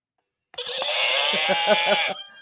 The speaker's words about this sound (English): That was a horse.